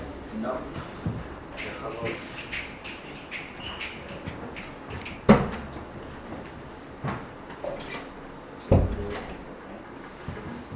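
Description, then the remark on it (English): A door is closed with a sharp knock, followed a few seconds later by a second heavier bang, against a murmur of people talking and shuffling during a Torah class. “You guys mind if I close the door?”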